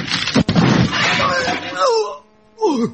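A sharp, loud smash as a camera is brought down over a man's head on a film set during the shooting of a scene, followed by a noisy, clattering crash that trails off into a shout, with a voice rising again at the end.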